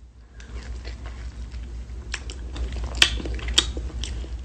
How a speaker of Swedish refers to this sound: Smaskande?